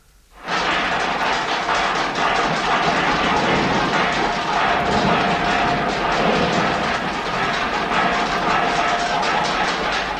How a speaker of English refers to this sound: So let's have a little practice first, eh? Right. Now, first, let's hear from the dustbin lids.